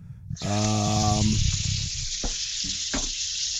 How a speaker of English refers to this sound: All right. Washing the dishes. Sorry.